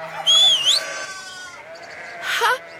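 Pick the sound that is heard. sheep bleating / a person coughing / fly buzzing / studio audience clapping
sheep bleating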